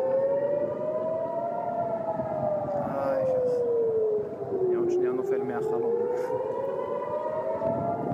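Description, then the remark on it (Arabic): Air raid warning sirens in Israel wail continuously, warning residents of incoming drones. The pitch slowly rises and falls in long sweeping cycles, loud and sustained throughout with faint background noise. “التعامل مع مثل هذه المسيرات حتى أنها تصل إلى داخل إسرائيل، أو على الأقل نسمع دوي صفارات الإنذار داخل إسرائيل، وبالتالي بعض هذه المسيرات يصل إلى أهدافه وكثير منها يتم اعتراضه، لكن بعد أن يكون سكان إسرائيل شعروا بوجود الخطر وسمعوا دوي صفارات الإنذار.”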